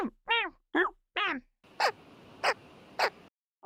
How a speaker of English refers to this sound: But it's not. It's a big dumb bird.